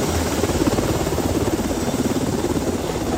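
A National Guard Black Hawk helicopter flies overhead, searching for a woman swept into Havasu Creek by flash floods at Grand Canyon National Park, its rotor blades thumping in a fast, steady rhythm over a loud, continuous engine roar, with no voices.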